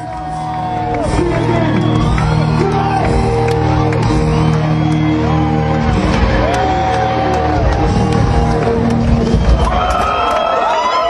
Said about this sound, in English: And again, this is a sold out show. And listen to the crowd out there wanting more.